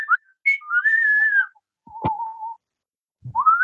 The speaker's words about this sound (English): Thank God we don't have anything in our ear holes. They'd be blown out by that whistling.